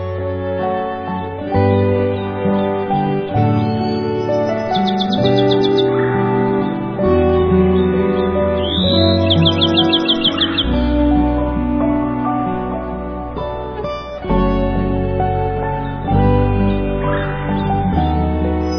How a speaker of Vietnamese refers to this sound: Các loài chim quý cất giọng hót líu lo, thắm thót hát cho mỏm đá nghe những bài hát hay nhất của loài chim.